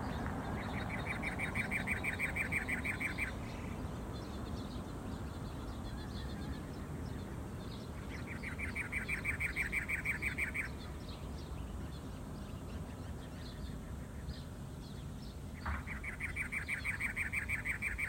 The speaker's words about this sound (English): We're starting off with the Arizona state bird, the cactus wren. Find your picture. Take a good look while we play the sound of their call.